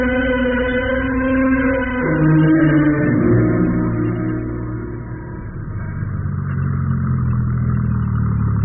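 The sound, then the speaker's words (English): A car engine hums steadily after a drive in from the country, its low pitch dropping in a few steps as the vehicle slows to a stop in front of the studio club, then settling into a rumbling idle with no voices. “You can stop right in front. All right. Thanks for driving me in from the country”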